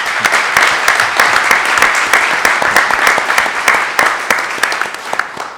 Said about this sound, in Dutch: En nog een keer een daverend applaus voor Evi gewenst van mij.